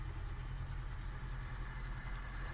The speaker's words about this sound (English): Boat going past.